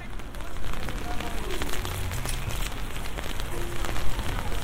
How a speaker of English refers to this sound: But I just thought I'd come and stand in the rain for a moment because I love this sound of the rain on an umbrella, so maybe you will too.